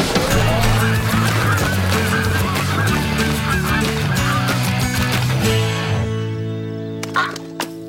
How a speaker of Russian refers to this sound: Да, гуси! Гуси летят! Гуси уже летят! Мы слышали!